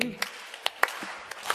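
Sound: audience clapping three times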